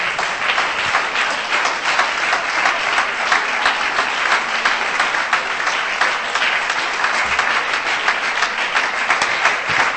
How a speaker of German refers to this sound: Clap your hands and give praise to the Lord. Klatsche in die Hände und preise Jesus.